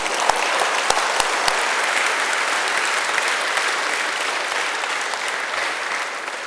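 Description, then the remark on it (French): An audience applauds steadily in agreement at the preacher's request during a prayer, a dense wash of many hands clapping together that holds evenly loud for several seconds, with a few sharper claps standing out near the start. “Si vous êtes d'accord, alors applaudissez ça.”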